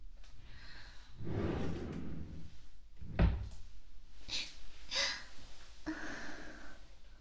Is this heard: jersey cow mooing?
no